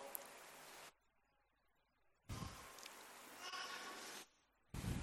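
Sheep bleat loudly in three separate bursts, the middle one long and drawn out, with short quiet gaps between them and no talking.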